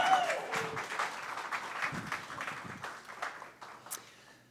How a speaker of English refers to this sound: Yeah, you can cheer again if you want.